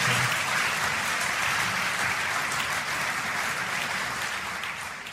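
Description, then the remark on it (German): Loud, sustained applause from a large audience in the Kulturhaus of Beroun, central Bohemia, at the Trilobit film awards ceremony, for film director Teresa Nvotová. A dense crackle of many hands clapping without pause, easing only slightly toward the end. No one speaks over it. “Großen Beifall erhielt Filmregisseurin Teresa Nvotová vom Publikum im Kulturhaus von Beroun.”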